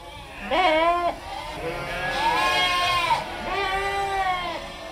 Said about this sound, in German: 150 Schafe und 195 Lämmer wuseln im Schafstall am Infohaus der Loki-Schmidt-Stiftung durcheinander und blöken aufgeregt.